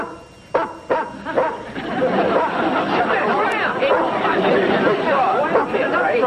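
A dog lets out three quick, sharp barks near the start, then a lively crowd of people chattering and laughing fills the rest, loud and continuous.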